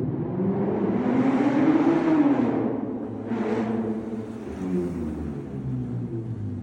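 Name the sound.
car revving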